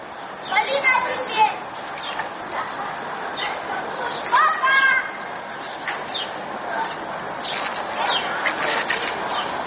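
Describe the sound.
Children's high voices call and shout outdoors as they play in a construction pit bordering the Solnyshko kindergarten, a few lively bursts rising over a steady background hiss, with fainter chatter in between.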